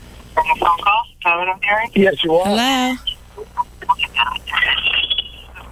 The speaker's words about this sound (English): And oh, are we getting a phone call? Is that what I'm hearing? Okay.